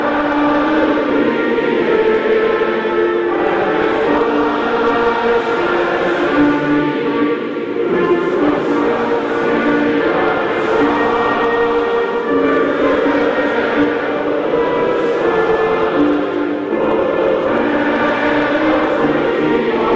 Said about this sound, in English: So the national anthem, the microphone crapped out, and then the audience, you got to love these folks in Kansas City, the audience, the crowd at the stadium just started belting out the national anthem. Take a listen.